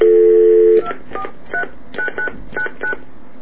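A steady dial tone stops, then seven quick telephone keypad tones beep one after another at an even pace as a number on the 243 exchange of VoiceDream cell phones is dialed, clear with no voices.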